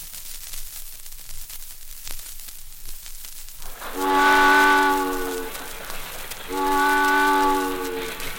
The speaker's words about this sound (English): Circus train, I'm a little circus train. Oh, I whistle loud and I whistle long as I'm rolling merrily along, right along as I'm rolling merrily along.